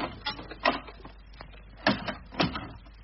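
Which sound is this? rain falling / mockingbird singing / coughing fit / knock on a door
knock on a door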